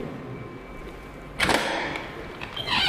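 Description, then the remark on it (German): A door leading into office rooms is opened with a sharp clack and a brief rushing swoosh partway through, followed by shuffling movement and a rising airy hiss as someone passes through. “Dann begleitet mich bitte zu dieser Tür.”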